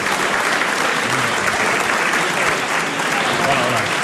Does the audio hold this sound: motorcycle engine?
no